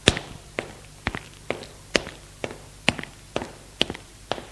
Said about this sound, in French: Il monte les escaliers de pierre.